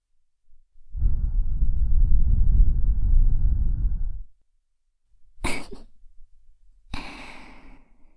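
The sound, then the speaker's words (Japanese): A person imitates a demon's heavy, menacing breathing: a long, deep, rumbling exhale, then after a pause a sharp hissing intake and a rasping, growly breath, loud with no talking. “このような息遣いに漁師はすくみ上がりました。”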